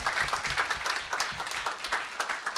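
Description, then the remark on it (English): A crowd applauds the Plow Organization for coming to New York City, steadily, many hands clapping in a dense, continuous patter at a fairly even loudness for a few seconds, with no voices standing out. “And the last thing I'd like to do, can we just give the Plow Organization a huge round of applause for coming to New York City and doing what they did?”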